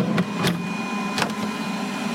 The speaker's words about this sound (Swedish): innan vi nu kom in i det här rummet med de här skrivarna som står här